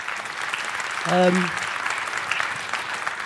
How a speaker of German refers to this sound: Ja, erstmal einen herzlichen Riesendank und einen großen Applaus.